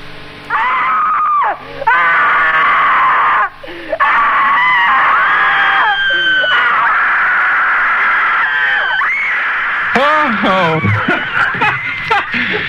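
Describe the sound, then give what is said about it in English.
A person screams loudly and nearly continuously, with sustained high-pitched shrieks broken by a few short gasps, ending in wavering, trembling cries. “Don't be embarrassed about opening your mouth and letting rip with all you've got, because the person in the seat right next to you will probably be screaming too.”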